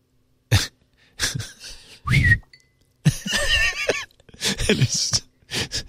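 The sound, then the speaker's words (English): A young man whistles a string of short, chirpy tones in separate bursts in a TikTok video, imitating the alert sounds of his sister's phone, with breathy, throaty noises mixed in between. Several rising and wavering pitches, no speech. “He's making the alert sounds that her phone would make.”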